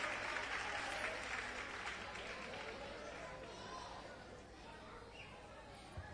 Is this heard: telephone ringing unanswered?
no